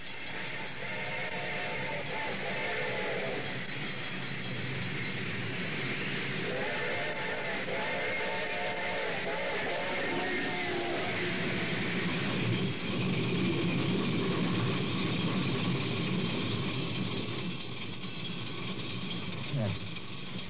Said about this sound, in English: The train was coming closer. I could hear its bell ringing and a cry of its whistle.